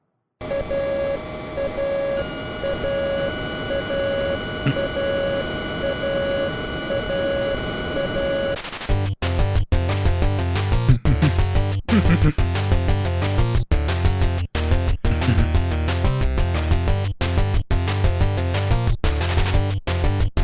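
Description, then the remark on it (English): A retro video game jingle that plays during the refueling segment of an airplane shooting game: a bright, beeping chiptune melody loops over a steady drone, then a punchy electronic beat with deep bass pulses kicks in at a quick, regular tempo. No one talks. “And then this little ditty plays.”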